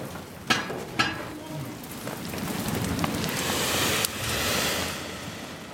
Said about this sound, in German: Die glühende Bronze schießt durch die Kanäle, die Formen füllen sich, die Windpfeifen fauchen